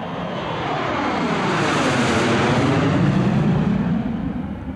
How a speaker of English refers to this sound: This jetliner, leaving Washington's National Airport, will be routed safely to its destination by the air traffic control system